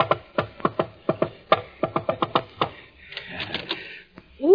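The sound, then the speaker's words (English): Knocking on a door on Valentine's Day: a rapid, uneven run of many sharp raps for about three seconds, followed by a rustling scuffle and a short rising vocal sound at the end. “Hi, you can quit knocking now. You're inside.”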